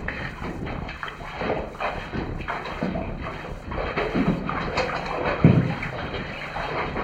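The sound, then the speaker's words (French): Continuous sloshing and splashing of water as someone wades steadily through a knee-deep pool in a cave, with a few louder surges and no voices. “nous pourrons passer plus facilement, simplement en pataugeant un peu en de l'eau jusqu'au genou”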